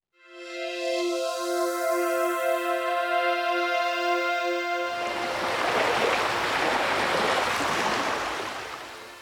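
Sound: ocean waves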